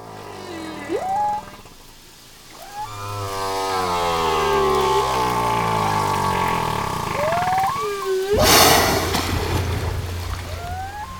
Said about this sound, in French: Vous venez d'entendre le chant d'une baleine. Pas celui qui est enregistré et aménagé pour vous endormir. Non, celui d'une baleine qui appelle ses petits.